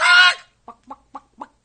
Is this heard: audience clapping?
no